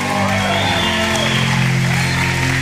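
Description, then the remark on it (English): A crowd claps and shouts at once, a loud steady wash of applause mixed with yelling voices that holds through the whole moment with no pause. “I think y'all can yell a little bit louder than that.”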